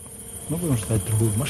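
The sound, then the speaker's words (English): An FPV drone's buzzing whine as it passes overhead, a steady high hum that swells after a moment into wavering tones rising and falling in pitch, fairly loud and with no one talking. “So that drone we heard has passed overhead.”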